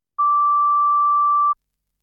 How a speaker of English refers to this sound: Please record your product review and your rating out of 5 after the beep. Thank you for your feedback.